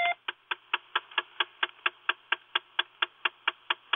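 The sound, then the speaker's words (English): A steady, rapid clicking under a car dashboard after the ignition is switched off, lasting about 20 seconds, with about four sharp, bright clicks per second repeating evenly and at an unchanging level, and no talking. “Weeks ago, I turned off the ignition, and a clicking sound started under the dashboard, and it lasted about 20 seconds, and I turned the ignition back on, and it came back on again.”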